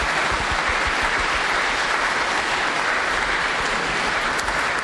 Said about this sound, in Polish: Witamy bardzo serdecznie raz jeszcze szóstą akademicką pielgrzymkę Społeczności Wyższej Szkoły Kultury Społecznej i Medialnej w Toruniu do świętego Józefa. Przybywacie, może brawa dla wszystkich na początku, tak po prostu, naraz.